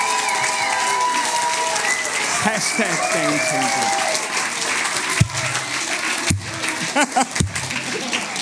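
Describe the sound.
A crowd in a youth church claps and cheers in sustained applause, with scattered shouts and voices mixed in, then the clapping thins out toward the end.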